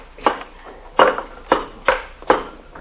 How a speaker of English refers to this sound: Whatever it is, it's behind these bricks, Sarge. Here, take this crowbar and knock that wall down.